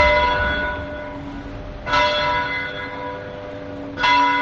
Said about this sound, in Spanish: Pues el reloj de la plaza era manual hasta hace 8 años, porque entonces instalaron una maquinaria más moderna y automática y descuidaron esas piezas originales. Eso sí, las campanas siguen sonando igual.